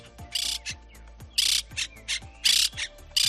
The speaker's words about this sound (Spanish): ¿Lo identificas? Sí, es el canto de la cotorra. Bueno, no sé si las argentinas tienen un acento más quedo, más arrastrado, pero lo cierto es que esta especie, considerada invasora, está proliferando en la ciudad de Guadalajara.